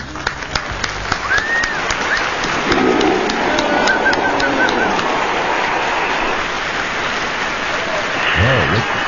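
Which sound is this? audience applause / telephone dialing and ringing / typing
audience applause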